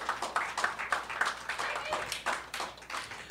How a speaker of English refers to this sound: Let him hear that again. Clap for him again. Thanks.